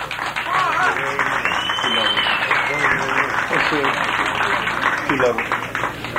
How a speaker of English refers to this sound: let's get together and give the band, …, …, one of the famous …, a pretty big round of applause